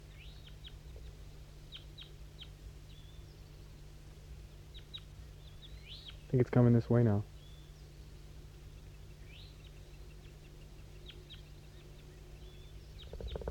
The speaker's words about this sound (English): Oh, start recording. That wild bird down the hollow started to sing.